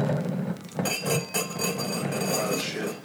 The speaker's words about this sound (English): Just moving my glass.